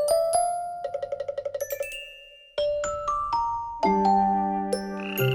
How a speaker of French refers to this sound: Avec des bruits de grenouilles. Oh là là, c'est si mignon. Ça marche ! Ça a endormi ma fille.